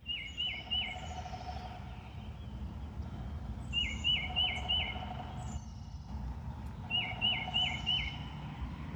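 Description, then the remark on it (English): A woodpecker calls in the woods behind a garden in North Carolina in three short bursts of quick, high, chirping notes, a few seconds apart, over a steady low outdoor rumble. No one speaks. “This is the woods behind his garden, and you can hear a woodpecker.”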